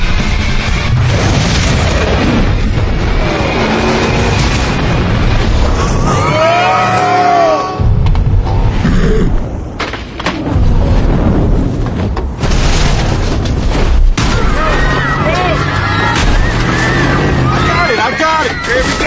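A loud, dense burst of noise dominates throughout, like a heavy explosion boom rumbling amid chaotic activity, with some tonal sweeps and crowd-like noise layered on top and no pauses.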